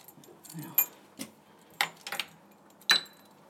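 Keys jingle and rattle in several quick bursts, then a key fob unlocks the B block door, a double door of an old building, with a sharp click and a brief high-pitched tone. No one speaks.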